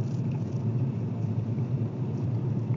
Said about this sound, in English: So, just a little distracted by traffic, of course, which I should be paying attention to the traffic, and behold, I am.